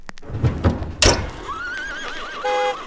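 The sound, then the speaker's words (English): At the first ever use of a traffic light in London, a few heavy hoof clops and a sharp knock, followed by a horse's shrill, wavering whinny that trails off into a steadier tone, clear with no talking. “You got a f***ing accelerator pedal on that horse!”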